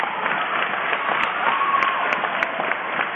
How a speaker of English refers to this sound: The crowd claps.